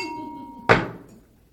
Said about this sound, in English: Let me ring the bell.